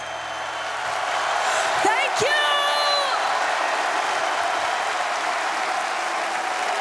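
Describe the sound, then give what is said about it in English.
A large audience at a performance cheers and applauds continuously in a broadcast recording, a dense, roaring wall of noise, with a shrill rising whistle or whoop cutting through early on. “So that's very clearly an awful lot of cheering, but you say that wasn't representative of what happened on the night?”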